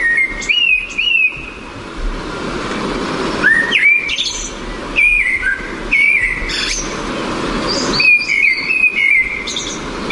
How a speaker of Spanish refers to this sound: Un pájaro. Un mirlo. Es un mirlo macho. Ah, más señas, sí, sí. El canto del mirlo.